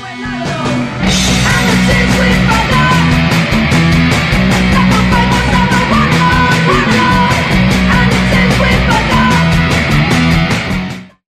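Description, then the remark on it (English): A trade union choir sings loudly and steadily at an International Women's Day gathering, with full, layered voices over a regular rhythmic beat, for about ten seconds before the sound cuts off abruptly. “And what you just heard was the trade union choir singing, so can we give them a round of applause?”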